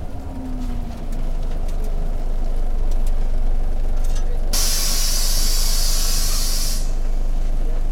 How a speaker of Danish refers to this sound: Det er morgen i Brastrup, og det regner.